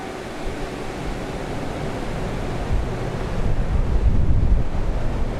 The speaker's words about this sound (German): In so einem Windkanal ist ein riesiger Ventilator angebracht, der bis zur Decke reicht und Luft ansaugt.